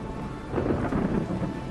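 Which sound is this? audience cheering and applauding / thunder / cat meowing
thunder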